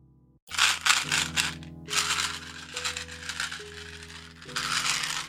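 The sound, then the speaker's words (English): A packet of chewing gum is shaken in quick bursts, the pellets rattling and rustling loudly inside, over a steady low sustained tone that shifts pitch a few times. “That was the chewing gum shaking pause.”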